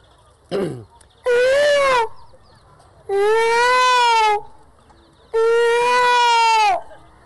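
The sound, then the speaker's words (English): A voice mimics peacock calls: after a short yelp, three loud, drawn-out wailing cries about a second long each, separated by brief pauses, clear with no talking. “But if you stay here, first thing all night long you hear the peacocks.”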